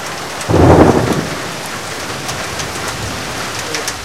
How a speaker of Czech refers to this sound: Když to zaslechla Máří Magdaléna, rozlobila se a nad Včelákovem rozpoutala silný liják.